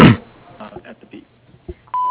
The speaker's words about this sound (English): message at the beep.